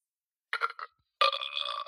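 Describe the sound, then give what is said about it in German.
A burp sound effect played on command from a box: a short choppy belch in two quick bursts, a brief pause, then a longer sustained buzzy one with a fairly high, tonal quality. No one speaks. “Wir können jetzt auf Kommando rübsen.”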